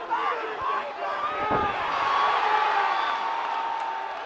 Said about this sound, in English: only to get knocked out in the first round. Listen to him hit the floor.